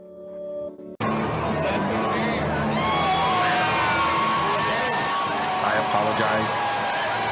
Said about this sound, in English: Let me adjust the volume. I apologize. That was extremely loud with the cheering. And it's distorted. I apologize.